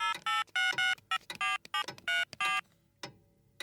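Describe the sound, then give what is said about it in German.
A mobile phone being dialed to call another person's mobile: a quick run of about nine short, bright keypad tones in an uneven rhythm, clear, with faint clicks between and no talking. “Ich probiere es nochmal auf Floris Handy.”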